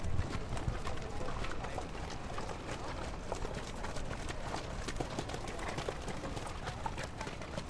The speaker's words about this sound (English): As you recover from this barrage on your senses, you might need to stand aside. While there's no cars, there's equally dangerous horses coming by.